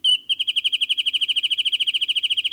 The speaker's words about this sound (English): The dense cover of coastal chaparral supports many birds found nowhere else in the world. We're listening to the bouncing ball song of one such special bird, the wren-tit.